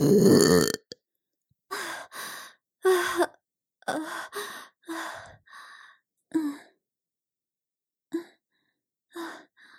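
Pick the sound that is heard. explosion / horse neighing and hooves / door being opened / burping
burping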